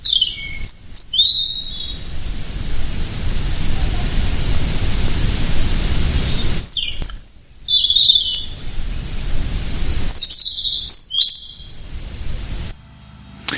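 Clear, high-pitched bird song arrives in three short bursts of bright chirps and trills, set against a steady, loud background hiss like wind or rushing noise.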